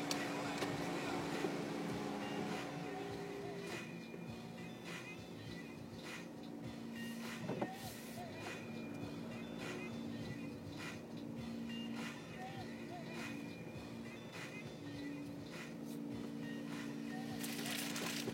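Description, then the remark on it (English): A truck that has come to empty the porta potties idles in a steady, heavy rumble with a low droning hum that holds constant for the whole stretch, faint indistinct voices occasionally mixed in beneath it. “Waiting behind the truck that is here to empty the porta potties, I guess.”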